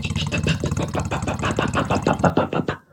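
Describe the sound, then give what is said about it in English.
A voice mimics a sputtering plane engine with a rapid run of rough, pulsing bursts for about three seconds, fairly loud, trailing off at the end. “And then suddenly, the engine started doing.”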